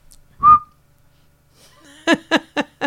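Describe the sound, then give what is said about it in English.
A single short, loud whistle blast blown into a microphone, followed after a pause by four quick, evenly spaced voiced bursts. “all I did was blow a whistle into the mic for an hour”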